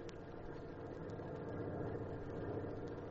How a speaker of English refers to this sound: At 7:20 sharp, a truck pulled up at the corner. The driver remained at the wheel.